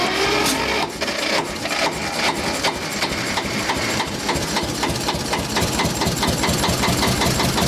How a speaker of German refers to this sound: An und für sich ist es auch so, dass wenn bei uns im Süden von Graz die Leute ein paar Gläser Honig bestellen, kriegen sie es auch standesgemäß mit dem Steirer Traktor zugestellt von uns.